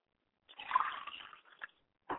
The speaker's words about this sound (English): I pour libation to the north, and I say, Ashe.